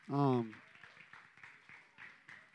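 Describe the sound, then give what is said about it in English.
A single voice lets out a short whooping cheer, then a thin smattering of scattered, quiet handclaps follows: tepid applause with no steady rhythm. “I have to say, that's a pretty tepid applause, but that's good.”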